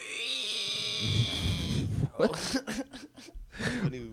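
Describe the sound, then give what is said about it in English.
A person's voice imitates a shrill, reptilian pterodactyl screech, a high sustained shriek sliding into a rough growl, followed by a few short, choppy vocal bursts. “It's more like a pterodactyl type of reptilian screech.”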